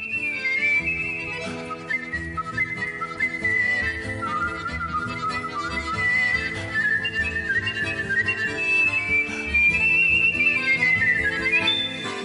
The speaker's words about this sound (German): Sein Pfeifumfang reicht 3,5 Oktaven rauf und runter. Er pfeift Klezmermusik, Jazzklassik oder sogar Hardrock.